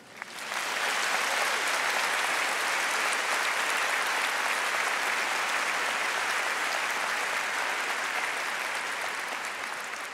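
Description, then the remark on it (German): A crowd applauds steadily, the dense, even clapping swelling quickly at the start and holding at a loud, sustained level throughout without any rhythm or voices. “Es gibt eine Zeit zum Klatschen.”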